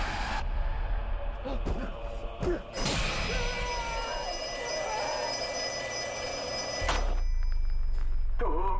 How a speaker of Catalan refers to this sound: Sona de nou el telèfon de Black Phone.